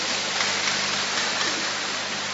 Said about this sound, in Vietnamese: Vậy mà hôm nay họ lên đây để chia sẻ làm chứng cho mọi người họ được ơn như thế nào. Chúng ta cho một tràng pháo tay để gặp gỡ.